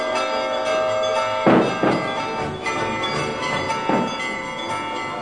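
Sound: church bells ringing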